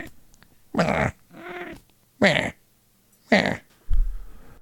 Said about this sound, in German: Ja, die Katze ist auf jeden Fall auch mit dabei.